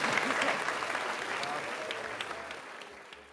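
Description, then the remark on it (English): A crowd at a Zocalo Public Square public talk applauds the featured guests steadily, a dense crackle of many hands clapping at once, starting full and tapering slightly toward the end with no voices rising above it. “So please give another big round of applause for our featured guests.”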